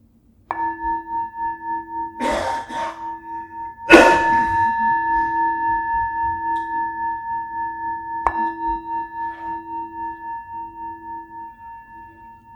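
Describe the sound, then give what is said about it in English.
A meditation bell is struck once, its clear, steady tone ringing with a slow, wavering pulse and fading gradually over several seconds, with a couple of brief knocking sounds partway through. “As the sound of the bell fades, just come into the body as much as you can, bringing an attitude of curiosity and kindliness.”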